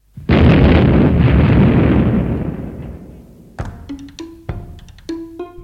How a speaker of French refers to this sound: Et j'entends un énorme boum et la Terre explose.